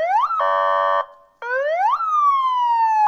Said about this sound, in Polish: Sygnał karetki pogotowia i wozu strażackiego większość z nas zna doskonale. A rowerowa karetka?